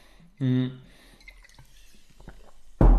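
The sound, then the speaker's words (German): A wet sip of water followed by soft liquid gulps and small mouth clicks, with a brief voiced sound at the start and a louder burst at the end; a person quickly takes a sip of water in a home office on a hot day. “Ich nehme jetzt mal schnell einen Schluck Wasser.”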